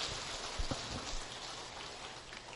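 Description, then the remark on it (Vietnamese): A crowd at Quan Thế Âm temple applauds on the first day of Lunar New Year, a round of applause to rejoice in merit, in a steady, dense patter of clapping that holds at an even level throughout, with no voices over it. “Xin đại chúng hãy dành một tràng pháo tay nữa để tỳ hỷ công đức.”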